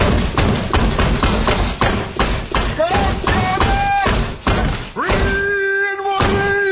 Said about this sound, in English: Stop the fucking hammer! I got a kid over here, okay?